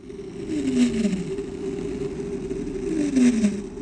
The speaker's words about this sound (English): Bloom says blue whales have been recorded making sounds in our waters when they're foraging for food.